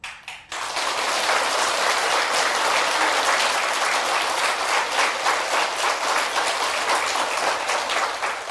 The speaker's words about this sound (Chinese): 我现在说给你们，鼓掌也没有用